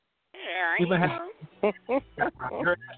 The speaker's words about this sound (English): You heard I had the dogs barking in the background? Yes, let me tell you. And she only acts a fool when it's time for the show, let me tell you.